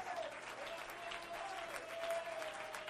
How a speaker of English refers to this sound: Let's stand together. Let's clap our hands. Let's lift up a voice of praise unto God.